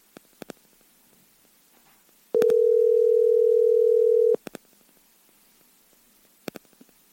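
A single steady, mid-pitched telephone ringing tone of a call from the Mike Calta Show on 102.5 The Bone, Tampa, to the show's executive producer sounds loudly for about two seconds while waiting for an answer, with a few faint clicks and taps before and after it and no voices.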